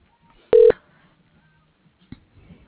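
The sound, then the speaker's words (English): A telephone call to Alchemist Labs ringing: one short, loud electronic tone burst with a steady pitch, followed by near silence broken only by a faint click and soft rustling. “Yeah, it's ringing.”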